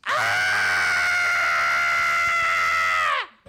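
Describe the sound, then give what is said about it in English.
A woman lets out one long, loud, sustained acted scream at a high, steady pitch, holding it for about three seconds before it drops off sharply. No talking. “I had to scream so many times in the audition.”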